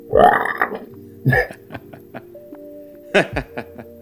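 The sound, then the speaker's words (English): A person imitates frogs croaking with a few loud, guttural, low-pitched vocal bursts, separated by pauses and followed by softer short croaks, with a faint steady tone between them. “You hear the croaking of the frogs going.”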